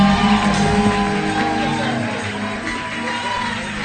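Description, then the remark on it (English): A large crowd shouts and cheers as Apostle and Lady Apostle are welcomed at Alabaster International Ministry and Bonsa Memorial Temple, a dense wall of overlapping voices and whoops that stays loud throughout, fading only slightly toward the end. “Are you screaming?”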